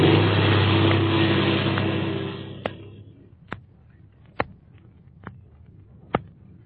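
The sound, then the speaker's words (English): A loud airplane engine, not warmed up, roars and revs as the plane takes off straight ahead, then drops away over a few seconds, leaving a faint hum broken by a series of sharp, evenly spaced clicks or knocks. “I haven't got time to warm the engine. I'm taking off straight ahead.”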